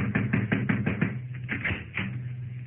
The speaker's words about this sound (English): This is the room. Let me go from you now. I'll need you to knock on the door, Cavillo. Knock.